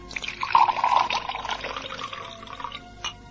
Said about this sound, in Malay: coba tuangkan minuman untukku.